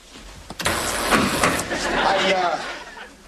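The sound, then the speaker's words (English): The engine of a black Sidewinder truck, parked on steps, cranks and roars to life after a short click, then keeps running loud, with indistinct voices mixed into the noise. “The owner of Black Sidewinder, please move your truck.”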